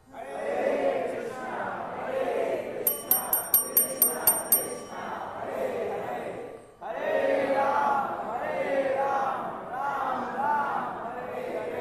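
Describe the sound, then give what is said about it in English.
A large crowd chants the Maha Mantra loudly in unison, voices rising and falling in a steady repeating rhythm, with a quick run of bright, ringing metallic strikes briefly cutting through early on. “So please raise your hands and bless me by chanting the Maha Mantra too loud.”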